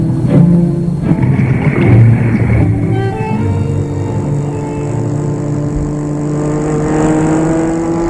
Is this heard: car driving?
yes